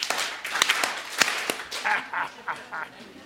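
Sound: hands clapping three times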